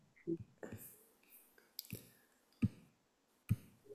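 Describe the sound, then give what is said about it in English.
Three crisp mouse clicks, made while clicking through pages, land at uneven intervals, each a sharp isolated tick, following a few soft breathy murmurs at the start against an otherwise quiet background. “Thank you for joining as I'm just like clicking through.”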